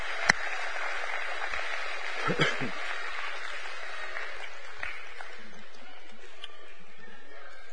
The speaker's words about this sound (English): One, two, three. Big round of applause.